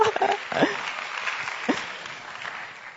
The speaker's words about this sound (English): Oh, you can clap.